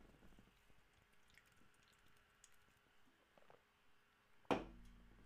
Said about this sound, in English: Let me take a swig of my water here.